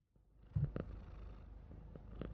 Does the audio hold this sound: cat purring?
yes